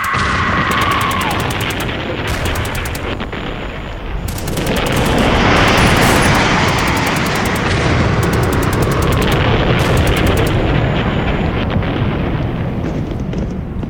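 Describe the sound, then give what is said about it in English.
A loud, relentless battle barrage of bombs and mortar shells exploding on a beach as troops storm it, with rapid bursts of gunfire crackling over a constant roar that swells heavier midway through. “I watched the assault and felt the shells and the bombs exploding around them and all around me.”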